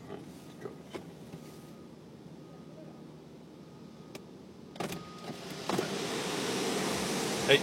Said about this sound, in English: Put it a little bit back. Okay. Let me move this truck.